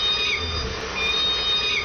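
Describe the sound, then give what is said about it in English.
Several high, squeaky calls from K-pod Southern resident killer whales, rather like mewing kittens, repeat about three times in quick succession over a steady underwater hiss and low rumble. “K-pod, like a bunch of kittens.”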